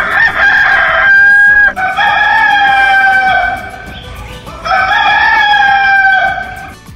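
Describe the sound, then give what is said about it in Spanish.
A rooster crows loudly, two long harmonic cock-a-doodle-doo calls separated by a brief pause, with no talking. “Si les parece, a las 6 de la mañana y 39 minutos, ¿es momento de que cante nuestro gallo?”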